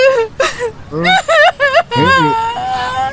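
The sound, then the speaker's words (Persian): A person cries, with wavering, high-pitched whimpers and sobbing wails broken into several short bursts, rising and falling in pitch over a few seconds. “اصلا من چرا دارم گریه میکنم؟”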